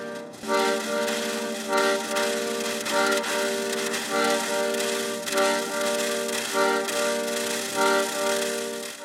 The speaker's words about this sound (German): So klingt Stuttgart bei Nevin Aladar, ohne Verkehrslärm und ohne Baustellen. Ein Akkordeon wird von einer Spielplatzwippe gespielt.